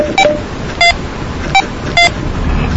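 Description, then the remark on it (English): A radio's squelch button gives four short, low-toned electronic beeps at uneven intervals, each crisp, over a steady background hiss with no talking; the low tone signals leaving the squelch function. “Low tone means you're out of the squelch function, like this.”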